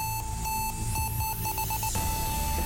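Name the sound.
timer alarm going off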